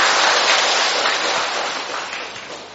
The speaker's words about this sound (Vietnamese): Một tràng pháo tay để chúc mừng tất cả những ai nhận thánh Phêrô và Phaolô làm bổn mạng.